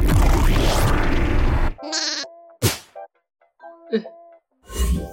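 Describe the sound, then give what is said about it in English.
A ship turns into a sheep and explodes into glitter: a loud, noisy burst gives way to a sheep's bleat and scattered bright, sparkly chimes and tinkling tones, like a cartoon explosion of glitter, ending with another short noisy flourish. “My ship just turned into a sheep and exploded into glitter.”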